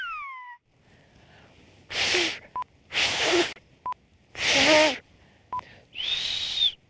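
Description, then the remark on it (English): Someone attempts the whistled language of the Canary Islands: a few breathy, airy blasts with faint pitched tones slipping through, short tone blips between them, and a steadier, clearer whistle at the end. “The Canary Islands have a song of their own, in a whistle carried on the wind.”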